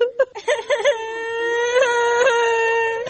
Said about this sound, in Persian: بچه چرا گریاد میکنی؟